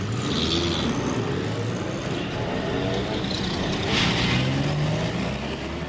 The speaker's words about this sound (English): As we move through the dense Tokyo traffic, or through landscapes in which rice fields and factories merge to blur the dividing line between town and country, we can't help contrasting the scene with so much that we've observed during the tour.